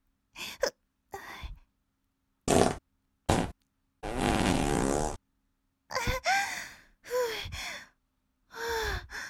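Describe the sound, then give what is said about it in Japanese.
Three loud farts from a woman burst out in quick succession, mixed in with short breathy sighs and gasps between the separate blasts. “おなら3連発しちゃった。”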